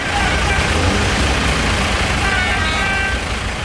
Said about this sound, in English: Well, this week, farmers in Northern Ireland have been holding tractor protests and blocking traffic.